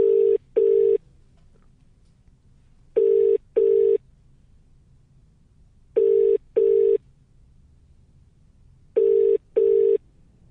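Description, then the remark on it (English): A telephone ringing tone on a call to one of 10 randomly pulled numbers repeats in steady double bursts, four pairs of short electronic rings spaced evenly with quiet line hiss between them, and no one speaking. “So 2 so far out of 8 calls.”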